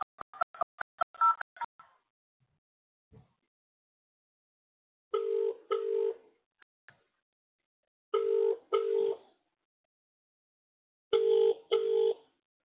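telephone keypad dialing tones

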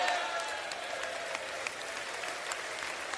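standing ovation applause

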